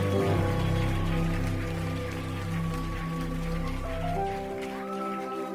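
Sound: audience clapping hands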